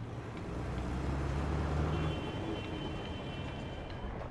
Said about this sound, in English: Driving from the hilltop to the city center highlights another of Kabul's challenges, traffic. The mostly unpaved streets are choked with 5 to 10 times the number of cars they were designed to handle.